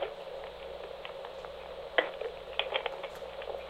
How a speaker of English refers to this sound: Let me get a little sip of water here.